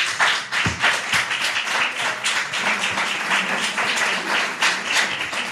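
A room full of people claps steadily, the dense patter of many hands sustained and fairly loud throughout, with no one speaking.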